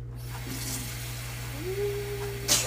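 A single sneeze: a thin, rising voiced tone builds for about a second, then breaks into a short, sharp burst of hissy noise, all over a steady low hum.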